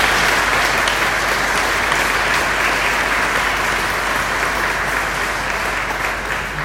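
Steady audience applause, many hands clapping in a dense, even wash that holds at a fairly loud level for several seconds without pause or voices.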